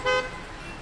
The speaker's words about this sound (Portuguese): O barulho dos carros, porém, ganhava ainda mais vida. Afinal, o horário de pico chegaria menos de 1 hora e meia depois.